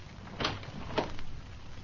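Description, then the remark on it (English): A door being opened after someone knocked: two short, rattling clunks about half a second apart, moderately loud over a low steady hum, with no voices. “Open that door.”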